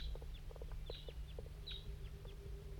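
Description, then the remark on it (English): A wild crossbill, at least one bird of a large race flying around in a hollow, gives a series of short, sharp, high chip calls at irregular intervals, mixed with softer lower notes, over a steady low background hum. “and there's a wild crossbill somewhere down here in the hollow.”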